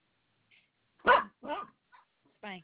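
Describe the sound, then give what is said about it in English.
A small dog, a Shih Tzu, lets out three or four short, sharp barks at irregular intervals, at modest volume against an otherwise quiet background. “What kind of dog do you have? It's just a Shih Tzu.”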